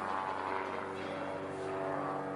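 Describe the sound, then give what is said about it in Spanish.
A steady, droning engine roar with a low humming tone holds at an even, fairly loud level throughout as many low-flying airplanes pass overhead, with no voices. “Oigo muchos aviones que vuelan bajo, encima de nosotros.”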